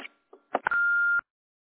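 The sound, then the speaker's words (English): A short snippet of a recorded voice ending, a couple of clicks, then a single steady electronic voicemail beep lasting about half a second, clear. “a message after the beep, and we'll get back to you just as soon as we can.”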